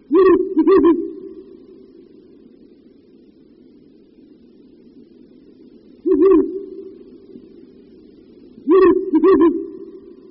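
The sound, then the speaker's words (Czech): Deep hoots of a Ural owl come in short bursts: a quick pair, then a long pause, a single hoot, and another pair at the end, over a low steady hum. “V Čechách se udržel puštík bělavý pouze na Šumavě a zejména v 19.”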